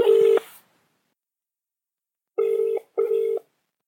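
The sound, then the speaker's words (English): A phone call placed on speakerphone to a correspondent in Norwich City Centre, ringing out through a speaker: a steady electronic ringback tone in the British double-burst pattern, one burst, a pause, then two quick pulses, fairly loud with a slightly tinny, buzzy edge. “It's ringing. Speakerphone.”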